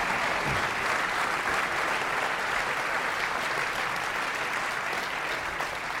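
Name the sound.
audience applause and cheering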